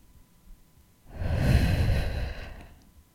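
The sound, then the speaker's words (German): A person breathes at someone's face: a single long, breathy exhale, rising and fading over about a second and a half, airy, with quiet surrounding it and no talking. “Jemand atmet dich an deinem Gesicht.”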